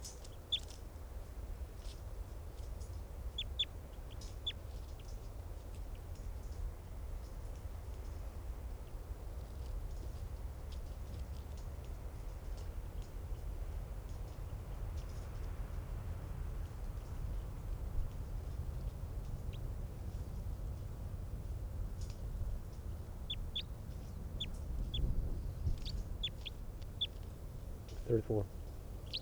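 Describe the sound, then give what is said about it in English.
Short, high-pitched calls from bird 305, getting excited at test call 534, sound sporadically and then more often toward the end, faint over a steady low rumble of background noise. “And bird 305 there is getting excited. 534 calls.”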